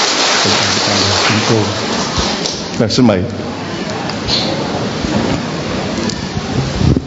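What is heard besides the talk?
audience applause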